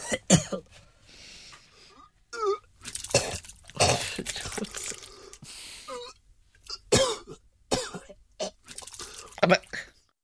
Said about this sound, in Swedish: och lyssnar på plasket och hulkandet av en riktig spia. Är du beredd? Åh, gud. Här kommer den.